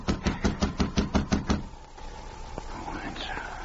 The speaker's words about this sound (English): Then he knocked again.